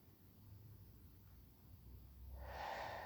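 A quiet, slow inhale into the diaphragm gives way near the end to a loud, airy, audible exhale rushing out. No one speaks.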